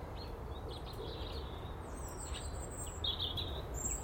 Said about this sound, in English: Definitely feels more, although it's cold this morning, definitely feels more and more like spring. Well, very, very early spring, but it does have that air with the bright skies and the calm air and the bird song.